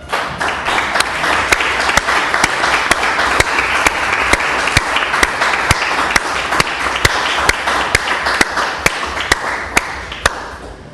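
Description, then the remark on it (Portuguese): A sustained round of applause from many hands in a parliamentary session, given for deputy Carlos Costa Neves: a dense steady crackle of clapping lasting several seconds, with sharp louder claps standing out at a regular rhythm before it thins near the end. “Eu agora peço uma salva de palmas.”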